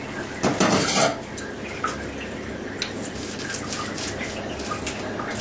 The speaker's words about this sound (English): So now, we're going to put the flour together in a mixing bowl.